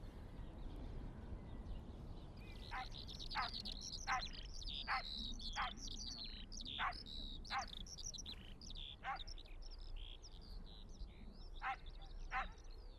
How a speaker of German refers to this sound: Auf dem Flugfeld gibt es viele Feldlerchen zu hören. Das sind ganz kleine, handgroße Vögel. Die Männchen fliegen in die Luft und singen wunderschön.